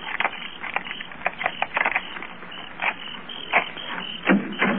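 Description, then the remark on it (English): Keys jingle and scrape against the lock of a locked back door of a house in a quick, uneven series of metallic clicks and rattles, with brief louder clacks scattered throughout and no talking. “I'd like to try my keys first.”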